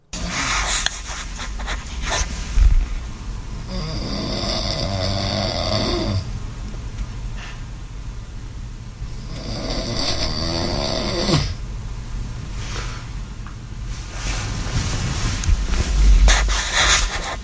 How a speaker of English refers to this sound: That was 17 seconds that my fiance recorded me snoring because she believes... Please tell me that was snoring. That she believes that I have sleep apnea.